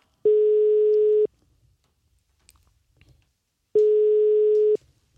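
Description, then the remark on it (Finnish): The ringback tone of an outgoing direct phone call to a very large retailer at a supermarket: two long, steady electronic beeps about a second each, separated by a few seconds of near silence, clear and fairly loud with no talking. “Otetaan erittäin suurelle kauppiaalle niin markettiin suora puhelu.”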